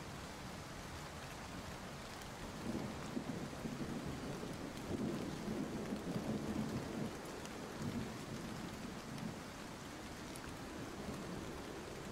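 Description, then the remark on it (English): Steady rain hisses continuously while low rumbles of thunder roll, swelling briefly in the middle before fading back under the downpour. No voices are present. “My wife loves the rain and thunderstorms.”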